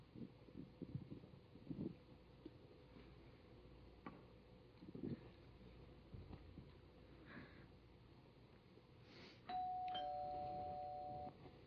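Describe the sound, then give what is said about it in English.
A two-tone doorbell chime rings out clearly near the end, its tones ringing on steadily, after a stretch of low rumbling background noise and scattered soft thumps. “The doorbell's ringing.”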